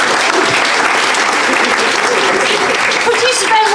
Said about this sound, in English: Round of applause for everybody in the audience who gave us their problems. Yeah, thank you.